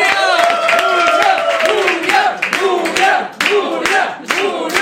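A crowd bursts into loud, sustained applause for an arriving guest, dense rapid clapping running the whole way through with excited cheers and whoops rising over it.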